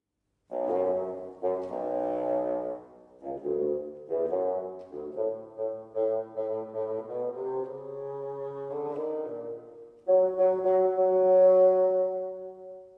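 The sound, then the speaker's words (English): A solo orchestral bassoon plays the grandfather's theme, representing the grandfather in the tale, a lumbering melody of low, reedy notes in short phrases that ends on a longer, louder held note. No one speaks. “The bassoon will represent grandfather.”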